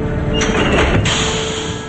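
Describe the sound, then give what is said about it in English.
Steel locks slam into place on a heavy door after a switch is flipped, two sharp metallic clunks about half a second apart over a steady mechanical hum, with no voices. “He flips a switch and steel locks engage on the heavy door.”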